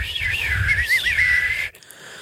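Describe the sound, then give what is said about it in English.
Breathy, raspy whistling, a wavering airy tone with a lot of wind-like hiss, held for under two seconds before cutting off abruptly. “It just sounds like wind outside of the house. I don't whistle the correct way.”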